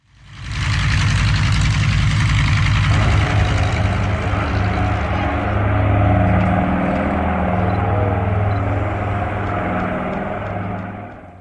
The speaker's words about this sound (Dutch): En deze keer, zoals u waarschijnlijk het geluid herkende, zullen we het hebben over een vliegtuig. En voor de kenners, u hoorde een vliegtuig Nor Atlas of Nor 2501.